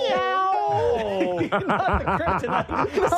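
A loud cat meow that stretches out, then breaks into a quick string of rapid, repeated yowling chirps, with no talking over it.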